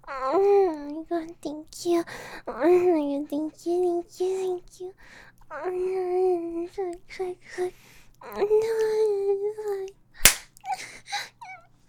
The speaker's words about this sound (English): Why'd you slap me like that